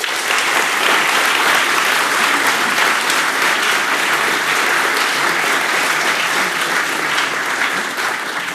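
Sustained audience applause for all the Trolle, a dense, steady wash of many hands clapping at a loud, even level for the whole stretch, with no clear speech over it.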